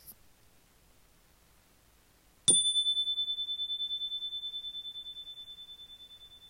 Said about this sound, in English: When you hear the bell, we'll begin the exercise.